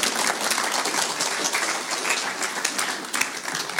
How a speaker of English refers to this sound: Yeah, one more round of applause for the CV Repertory Company.